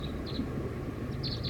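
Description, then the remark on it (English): Soft, high song of a wild bird perched at the top of a tree: a few brief, thin chirping notes in short bursts, faint above a constant low rumbling background noise, with no talking. “Song of the wild bird. Very soft.”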